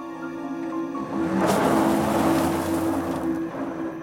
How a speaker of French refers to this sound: qu'elle était encore en vie quand il la plaça dans le coffre de la voiture avant de démarrer.